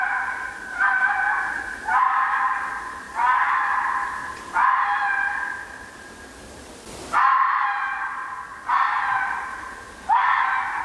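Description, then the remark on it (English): A fox gives a series of about seven harsh, high-pitched screaming calls, each loud burst rising then trailing off, repeated every second or so with one longer pause midway. “Now, many of you might be familiar with the sound of foxes.”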